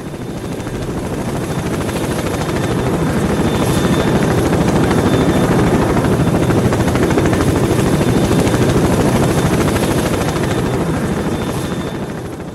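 A Vertol tandem-rotor helicopter with two main rotors roars steadily, its dense rapid rotor chop pulsing without pause for several seconds, swelling slightly then easing toward the end. No voices are heard.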